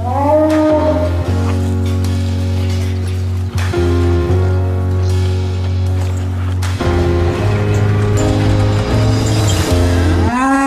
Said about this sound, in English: No dialogue in the trailer aside from what the cow says and the cow's chewing on grass.